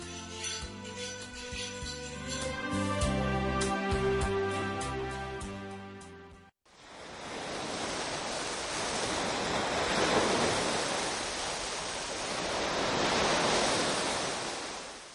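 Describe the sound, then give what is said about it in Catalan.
A short stretch of gentle melodic music cuts off, followed by the steady roar of sea waves breaking on shore, the surf rising and falling in broad, continuous swells with no voices. “Us parlem del mar. Gran extensió de l'aigua salada.”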